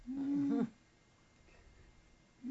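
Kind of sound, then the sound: animal, cat vocalizing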